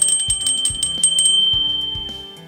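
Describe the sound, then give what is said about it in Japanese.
A bear bell, carried when going into the mountains to keep bears away, is shaken to demonstrate its sound, jingling repeatedly in quick, uneven shakes, its bright metallic ring sustaining and overlapping between strikes, fairly loud throughout with no talking. “そして先ほどお話にありましたクマ鈴なんですけれど、今日実は持ってきてくださってるんですよね。”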